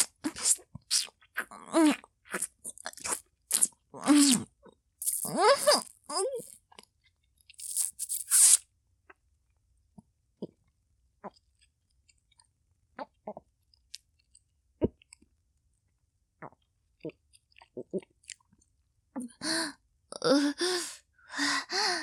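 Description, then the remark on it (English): Crunchy chewing and wet mouth noises of a mozzarella stick being eaten come in bursts, then a long near-silent stretch with a few faint clicks before the chewing, swallowing and breathy mouth sounds return. “I think it's time for me to swallow. I'm gonna take it all.”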